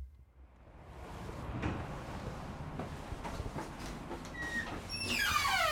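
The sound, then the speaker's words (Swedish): A door into premises holding a row of coffins is pushed open with a few soft knocks and scrapes, then a high creaking squeal as it swings, over a steady hiss of background noise, with no voices. “Vi stiger in i lokalen inom dörren som de flesta inte ser innan de börjar leta efter den.”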